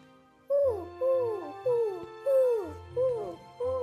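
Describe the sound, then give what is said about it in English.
A voice imitates a great horned owl, giving six hoots in a steady rhythm, each a medium-pitched tone sliding downward, with short pauses between and no other talking. “The sound of a great horned owl.”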